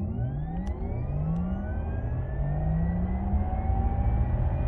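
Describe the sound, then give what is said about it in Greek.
A synthetic, rising whir of a Taycan electric sports car accelerating, with steady upward-gliding tones layered over a low rumble, continuous, no voices. “Αυτός ο ήχος λοιπόν, προφανώς η λογική ήταν να ενισχυθεί και να διατυπωθεί έτσι ώστε να εμείς να έχουμε την αίσθηση ότι επιταχύνουμε, γιατί είμαστε άνθρωποι και έχουμε και αυτιά.”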